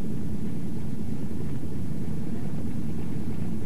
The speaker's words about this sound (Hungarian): Az első vérplazmát szállító svájci repülőgép hamarosan le is száll Budapest repülőterén. Ekkor jelenik meg a német Lufthansa is első ízben a háború befejezése óta. Gyors egymás utánban szállnak le angol, svéd, amerikai, francia, dán repülőgépek.